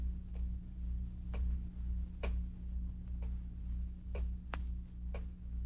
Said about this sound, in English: Terrible clock. Ticking. Yeah, I know. I've been sitting here listening to it. I can't stand it anymore. I'll stop it.